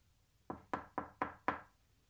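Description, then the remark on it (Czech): Five light knocks on a door in quick, even succession, soft, with no voices. “Tomu říkáš zaťukání? Musíš rázně, aby ti uvnitř jasně slyšeli, že se blíží...”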